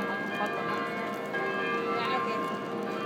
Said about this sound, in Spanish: Os dejo con el sonido de las campanas de San Patrick.